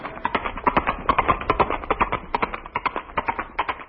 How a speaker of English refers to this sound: No, no, no, that's Granny, the Wonder Horse.